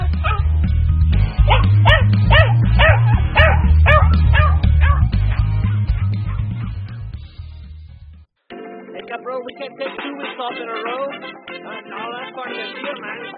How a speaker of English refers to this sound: So anyway, that's just Akita. Akita, she's our guard dog around here. She don't sound like much, but she's got a bark that'll bite the bitch out of you.